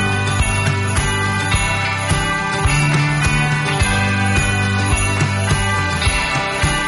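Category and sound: signal or alarm, christmas bells ringing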